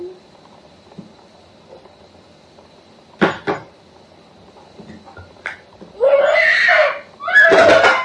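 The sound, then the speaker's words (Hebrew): A few sharp knocks land close by, a quick pair and then a single one after a pause, followed by two loud, shrill vocal outbursts. “שאני אגיד לך מים, לא תפסיק לדפוק?”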